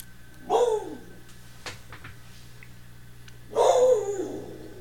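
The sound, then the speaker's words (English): A dog lets out two loud barks about three seconds apart, each dropping off into a brief whiny tail, with a faint steady hum filling the quiet between them. The dog is at the front door, barking at a young woman selling Kirby vacuum cleaners. “Who my dog is barking at. Oh, he's right at the door.”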